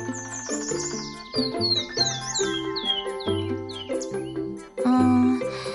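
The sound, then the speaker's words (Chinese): A rapid, intricate bird song of bright chirps and sweeping whistles, clear, likely a courtship song, playing over a steady bed of soft instrumental music with no talking. “我觉得这些鸟鸣声很复杂，像是一串的乐器声。”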